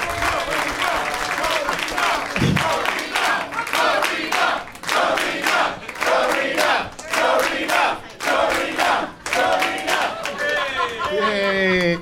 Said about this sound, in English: And one more round of applause for this audience. Give yourselves a round of applause.